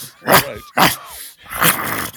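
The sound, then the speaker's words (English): A puppy growls and snarls in three short, raspy bursts, fairly loud, with brief pauses between them and no talking. “Sweetheart, I guess the father wouldn't take the puppy.”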